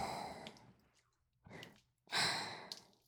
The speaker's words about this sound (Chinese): 你的喘息声越来越大了，但是还不行哦，不行。